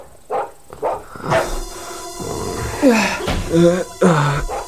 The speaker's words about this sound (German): Sie schreckten erst hoch, als sie ein Geräusch aus dem Haus hörten und fast gleichzeitig das laute Bellen